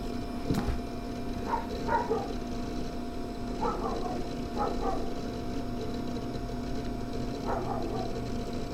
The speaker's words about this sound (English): There's a dog outside, and yeah.